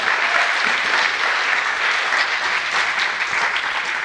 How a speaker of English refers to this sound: And you end up with this. Which is just bonkers, but deserves a round of applause.